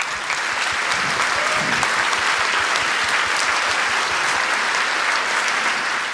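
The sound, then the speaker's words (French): A large film festival audience applauds itself steadily, a dense, continuous wash of clapping hands that holds at an even, loud level for several seconds without any voices rising above it. “Et je voudrais retourner aussi les applaudissements vers vous, et j'aimerais que vous vous applaudissiez, vous, parce que c'est aussi grâce à vous que ça existe.”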